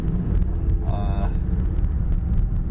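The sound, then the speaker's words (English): Steady road rumble from inside a moving car being driven to work fills the whole stretch, with a brief higher tone sounding faintly for a moment partway through. No one speaks. “So I'm driving to work right now.”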